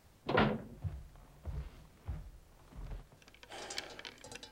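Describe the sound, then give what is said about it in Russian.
A door thuds shut with a solid knock, followed by several dull, uneven thumps and shuffling, then a faint rattling clatter at the end. “Закройте дверь плотнее.”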